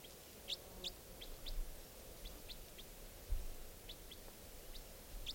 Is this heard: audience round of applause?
no